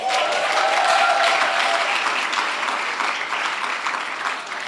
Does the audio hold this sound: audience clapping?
yes